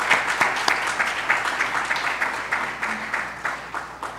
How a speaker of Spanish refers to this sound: Vamos a darle todos un aplauso.